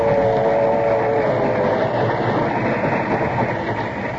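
A passenger train with a dining car rolls along with a loud, steady, rumbling roar that holds constant throughout, a faint mechanical whine riding on top in the first second or so.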